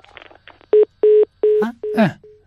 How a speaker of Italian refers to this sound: Secondo squillo. Terzo squillo. Quarto squillo.